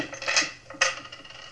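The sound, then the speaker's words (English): Keys and coins emptied out of someone's pockets clatter onto a hard table in two quick metallic bursts, jingling and ringing briefly, moderately loud with no voices. “take everything out of your pockets. Put it right down here.”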